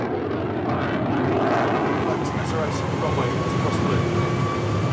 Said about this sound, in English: Typhoon jet rips through the night sky above RAF Akrotiri in Cyprus.